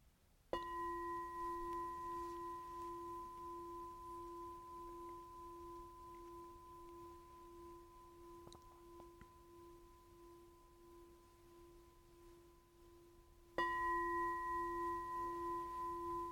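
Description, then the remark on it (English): A meditation bell marking the end of a meditation sitting is struck once and rings with a steady, pure multi-tone hum that slowly fades over many seconds, then a second strike sounds loudly near the end. No one speaks. “And as you hear the fourth bell and begin to shift your posture and open your eyes,”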